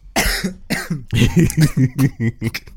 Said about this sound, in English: I'm keeping that in so people can hear me choking on my water. It's very embarrassing. I'm over here trying to laugh, and then I start choking